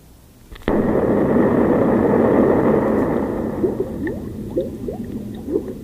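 A sudden loud burst opens into a steady, rushing roar, and over the last few seconds a series of rising, gurgling bubble sounds pops up through it, clear.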